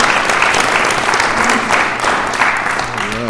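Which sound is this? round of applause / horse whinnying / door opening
round of applause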